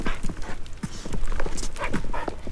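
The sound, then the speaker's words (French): A puppy's tail thumps repeatedly against a hard surface, a quick, uneven series of dull knocks that runs through the whole moment with no talking. “T'en fais le bruit avec ta queue.”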